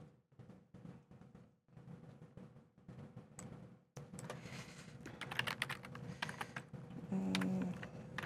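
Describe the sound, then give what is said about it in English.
Rapid typing on a computer keyboard, entering the console command install-package Microsoft.Azure.Search: a dense, uneven run of clicky keystrokes that grows louder and busier partway through, with no voices. “So in case people can't see that, you're typing install dash package Microsoft at a Azure.Search.”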